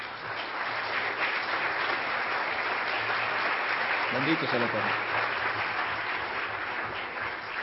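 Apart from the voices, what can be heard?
audience applause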